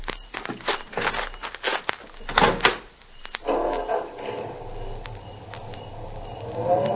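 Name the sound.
car doors shutting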